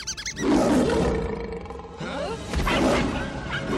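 A lion cub lets out a strained, growly little roar that swells and breaks over a few seconds, close and fairly loud, with a brief second push near the end.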